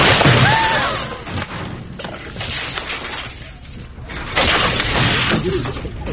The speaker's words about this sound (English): Now as he walks out to his office to clean out his desk, he starts knocking everything off every desk he passes. He just takes his arm and just swoops it right onto the floor.